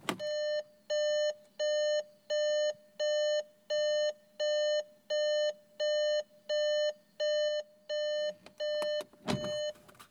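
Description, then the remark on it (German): An evenly pulsed car warning beep: about fourteen steady mid-pitched tones, each lasting as long as the gap after it, over a low engine hum, ending with a few clicks and a thump. “Genauso lang ist der Ton an, wie der Ton aus ist. Diet, diet, diet, diet. Das haben wir hier auch im Auto.”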